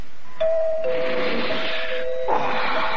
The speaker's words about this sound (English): It's the doorbell, huh? Oh, I guess it wasn't dreaming. That's the doorbell, all right.